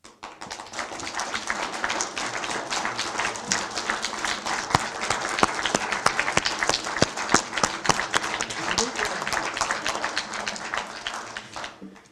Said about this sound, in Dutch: En daarom vraag ik u nu om een applaus. Niet voor uzelf, maar voor uw buurman of uw buurvrouw.